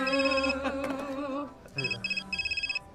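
A phone rings for an incoming spam call: a brief electronic tonal melody, then several quick, trilling ring bursts in a steady rhythm, clear with no voices.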